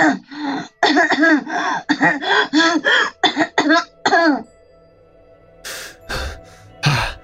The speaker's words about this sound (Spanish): Como apenas puedo emitir palabras, como que comienzo a toser.